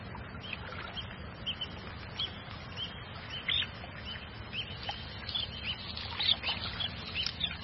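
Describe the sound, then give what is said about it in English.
Waterbirds call over and over at a lagoon, a busy chorus of short chirps and squawks over a steady low rumble of wind and water; the lagoon supports more than 20,000 birds of 250 different species. “It is a huge nursery for fish and a giant aviary for birds.”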